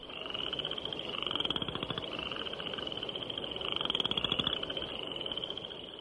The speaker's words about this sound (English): spring peepers whose once-per-second ascending peeps can be heard day and night, and western chorus frogs, whose call is often compared to the sound produced by running a stick over the teeth of a comb.